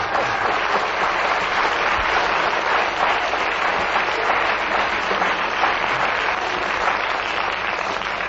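Steady applause from an audience, a dense wash of many hands clapping at an even, loud level for several seconds without pause or speech.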